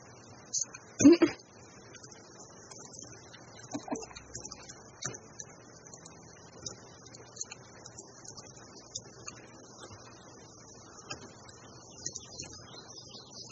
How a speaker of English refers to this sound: I hear birds! Birdies, birdies, birdies, the birds!